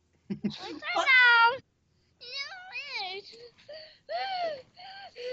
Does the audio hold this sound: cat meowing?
yes